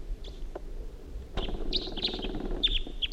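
wild bird calling

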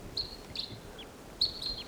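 crossbill calls

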